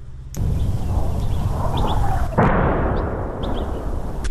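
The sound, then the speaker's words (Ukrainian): Russian artillery shells explode about a kilometre away near the Bakhmut front in Ukraine in heavy, rumbling booms, one at the start and another about two seconds later, with a broad low roar lingering between blasts. Faint bird chirps sound. “За километр, может, трохи далі падают российские снаряды.”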